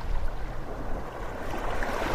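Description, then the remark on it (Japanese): Ocean waves wash in and out against the shore in a steady, rushing hiss of water, even in loudness throughout, with no voices. “寄せては返す波音、すごく心が落ち着く音だよね。”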